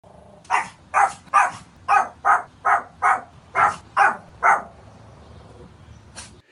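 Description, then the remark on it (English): A small chihuahua named Fifi yaps at a dog named Brutus by a car, a quick, steady run of about ten sharp, high-pitched barks, loud, then one last yap after a short pause. No one speaks. “Runs right up to the car, this little ankle biter, yapping her goddamn head off at Brutus like she's Godzilla.”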